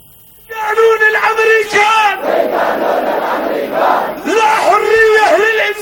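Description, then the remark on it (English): A large crowd of thousands of Yemenis in the streets of Sana'a, Yemen, rallying in support of Palestinians in Gaza, chants in loud, rhythmic unison, with a sustained roar of many voices in between. Strong, harmonic shouted phrases rise at the start and again near the end. “thousands of Yemenis filled the streets of the capital Sana'a and other cities across the country in yet another strong show of support for Palestine”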